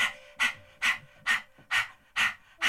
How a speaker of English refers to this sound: Really sharp breathing. Keep your tongue out. It's like an acting exercise, you know? Just keep your tongue out, loose tongue, and pant.